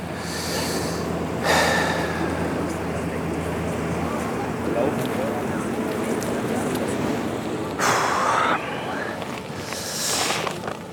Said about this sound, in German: Bei dieser Übung soll ich in den Körper hineinlächeln und tief atmen.